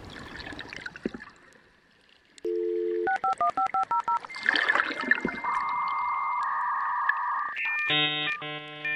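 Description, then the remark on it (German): A dial-up modem handshake: a quick run of touch-tone dialing beeps, then steady whistling carrier tones, bursts of hissing static, and a final warbling chord, loud with no voices. “mit Hilfe modernster Ultraschalltechnologie, den Einwalgesang hörbar zu machen.”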